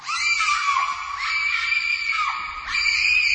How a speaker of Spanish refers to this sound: ¡Ay! A mí me está destrozando los oídos. Bueno, este es claramente un grito de pánico de una chica, ¿no? Sí, es un clásico del cine de terror. Y posiblemente uno de los sonidos más desasosegantes que hay.